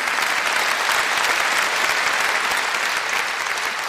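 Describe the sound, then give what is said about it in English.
A crowd claps steadily and loudly for several seconds, a dense, even wash of many hands with no pauses or voices breaking through. “You can applaud that, yeah.”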